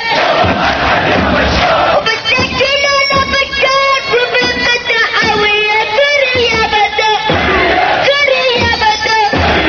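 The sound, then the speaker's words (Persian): A large protest crowd in Syria chants loudly in unison, many voices shouting rhythmic, repeated phrases with sustained pitched cries that rise and fall in waves, filling the whole clip without pause. “در همین حال تظاهرات اعتراضی در مناطق مختلف سوریه ادامه یافت.”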